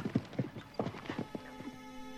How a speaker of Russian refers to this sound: Они посадили рыцаря на лошадь и двинулись дальше вдоль стены, а тот поскакал по аллее вглубь сада.